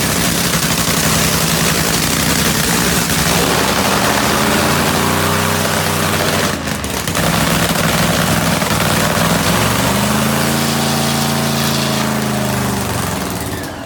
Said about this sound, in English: Can you smell that nitro? Is it burning your eyes and nose? There's nothing like the sights and sounds of a nitro funny car warming up.